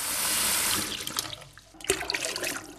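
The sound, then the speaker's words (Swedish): A small river flowing past just to the west: the water rushes steadily at first, then thins into softer trickles and scattered little splashes, with no voices. “På ena sidan, väster om oss, är det själva ån som rinner förbi precis.”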